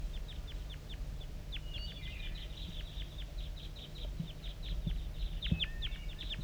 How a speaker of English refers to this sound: I'm getting a lot of calling from the decoys, and those are chitter notes of the wild bird.